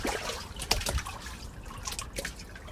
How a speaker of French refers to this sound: Sous le ponton, nous avons l'eau du lac d'Annecy, son clapotis, et sa capacité phénoménale à absorber tout, à la façon dont l'eau absorbe.